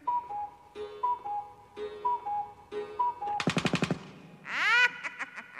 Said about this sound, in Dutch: Want slaat de klok 5 uur.